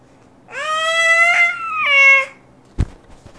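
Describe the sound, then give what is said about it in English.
A loud cat meow, drawn out for nearly two seconds with a brief break in the middle, followed by a single sharp knock or click. “You like to pet the kitty?”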